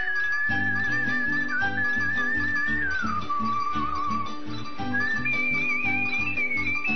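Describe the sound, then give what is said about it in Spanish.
A cheerful whistled Paraguayan polka melody glides up and down, steady, over a bouncy, rhythmic polka-style accompaniment with a pulsing low beat that runs throughout. “Venía silbando alegremente una polca paraguaya.”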